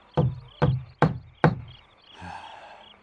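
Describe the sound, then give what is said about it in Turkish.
Four firm, evenly spaced, fairly loud knocks on a door by someone checking whether anyone is inside, followed by a brief, softer rustling or creaking sound. “Yine kapıyı kakayın vereyim. Adam var mı içeride?”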